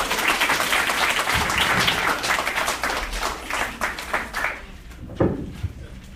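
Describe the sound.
An audience claps steadily for a few seconds for a comedian being introduced on stage, a dense wash of many hands that thins out and fades toward the end, with a brief voice or whoop near the close.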